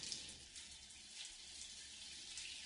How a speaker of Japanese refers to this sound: お湯が流れる。生え際から泡が流れて消えていく。